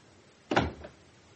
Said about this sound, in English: We shut the door.